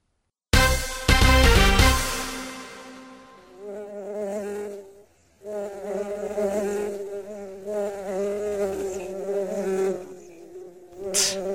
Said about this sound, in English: All this buzz, buzz, buzzing is really driving me to drink.